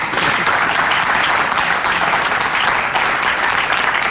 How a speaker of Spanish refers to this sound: Sin duda, se lo ha currado, se lo está currando, y sin duda ahí emocionada de ese aplauso que pidió la consejera.